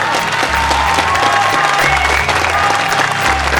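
An audience claps steadily and densely for several seconds, a continuous crackling wash of applause, while a pulsing low bass line from background music throbs underneath.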